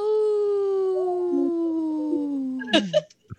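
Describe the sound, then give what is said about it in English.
A person imitates a wolf howl: one long, steady voiced tone that slowly slides downward for nearly three seconds, then ends in a brief rough break before falling quiet. “that was a weak howl.”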